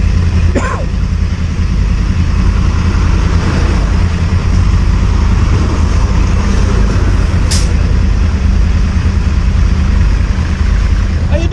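A motorcycle engine idles, a loud, steady low rumble that holds for the whole stretch, with a brief hiss or clatter cutting through near the end.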